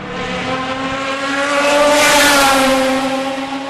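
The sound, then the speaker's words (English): A fast car roars by, its engine whine swelling as it approaches, peaking in the middle, then easing off slightly as it passes. No voices, just the steady, loud engine drone. “That is a fast car.”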